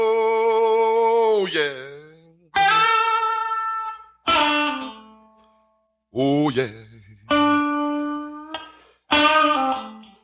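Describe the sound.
A distorted electric guitar plays an example lick from a guitar lesson, with sustained, bending and sliding notes in bursts, while audience voices shout excitedly over the playing.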